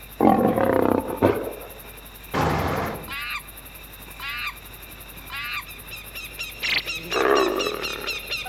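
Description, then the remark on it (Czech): A tiger in a zoo roars loudly in several deep, rasping bursts, with shorter high chattering animal calls breaking in between the roars. “Hu, hu, hu, who is in the zoo? Tiger, monkey, elephant, hippo, kangaroo.”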